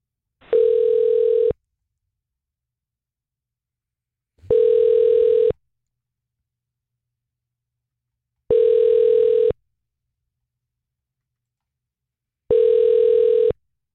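A telephone ringback tone on a call to the Gainesville Middle School East switchboard repeats four times, each steady mid-pitched burst lasting about a second, separated by roughly three seconds of silence, with no one answering and no voices.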